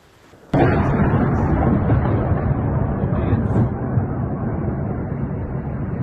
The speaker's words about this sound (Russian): Сегодня утром в местных пабликах начали появляться сообщения о том, что в городе громко и работает ПВО, и многие донечане проснулись вот от таких звуков.